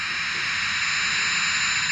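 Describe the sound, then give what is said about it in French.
A loud, steady jet roar of an airplane taking off, a broad hissing rush that holds at constant strength throughout with no voices over it. “Décolle.”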